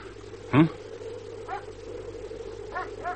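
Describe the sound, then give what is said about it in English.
Police dogs barking: one sharp, loud bark, followed by a few fainter barks spaced irregularly over a steady low rumble. “Dogs? Police dogs?”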